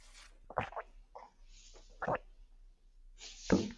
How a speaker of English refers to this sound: Sorry, let me just clear my throat and you take a little sip of water.